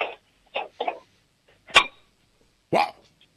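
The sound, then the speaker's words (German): A spoon strikes a cooking pot in a couple of sharp, loud clangs with a brief metallic ring, spaced about a second apart, preceded by a few short, softer bursts. “Lauf in die Küche und hol einen Kochtopf und schlag mal mit einem Löffel drauf.”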